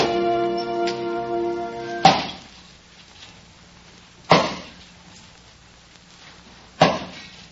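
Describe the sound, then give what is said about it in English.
An axe chops wood under a hot sun in three sharp, heavy thwacks, spaced a couple of seconds apart, each ringing out briefly. A sustained harmonic tone fades just before the first stroke. “you oughtn't to have something on your head chopping wood in this hot sun.”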